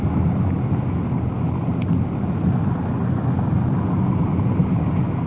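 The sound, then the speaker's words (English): A police patrol car drives steadily, its engine and road noise forming a constant, heavy low rumble, with no voices and no break in the sound throughout. “Slip her into second gear and begin to slow down.”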